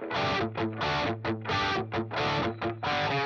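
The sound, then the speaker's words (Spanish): Electric guitar played through an overdrive pedal effect, a short riff of chopped, rhythmic chords with a gritty, saturated tone, loud, with brief gaps between strums and no voices. “Así suena el overdrive.”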